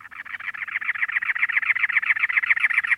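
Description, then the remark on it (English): A cactus wren's harsh, rapid chattering call runs steadily throughout, a fast stream of raspy, evenly spaced notes, fairly loud, with no voices. “By contrast, a cactus wren building a nest in early March orients the entrance away from the cold winds of that season, keeping the chicks snug and warm.”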